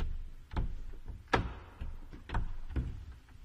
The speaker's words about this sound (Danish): Den er låst. Men det rungede meget, så hvis der var nogen derinde, så ville de vide, at vi har prøvet at komme ind.